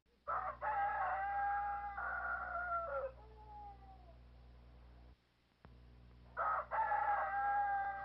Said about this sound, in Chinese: 快了，公鸡已经在叫，鸟也在叫了。